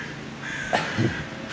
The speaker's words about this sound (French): Mais par contre, effectivement, dès qu'on arrive en ville, les animaux se font de plus en plus rares. Donc, à part quelques corbeaux, comme ici, qui nous regardent marcher, micro à la main, voilà.